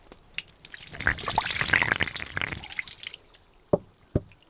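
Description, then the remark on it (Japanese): Hot carbonated spring water pours and splashes over an ear to rinse it for a few seconds, a broad bubbling wash that tapers off, followed by two sharp separate drips or taps near the end. No one speaks. “じゃあお耳をお湯で流していくね。”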